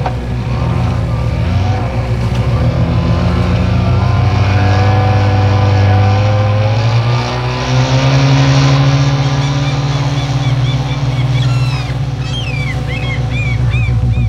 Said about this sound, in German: Er startete den Motor und raste zu den Klippen hinüber, wo sein Haus stand.